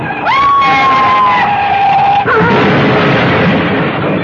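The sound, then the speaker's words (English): A car crash: a long, loud tire screech for about two seconds, then a sudden crashing impact followed by a sustained rumbling, crunching noise. No one speaks. “died in that crash, so mutilated that his body could not be identified.”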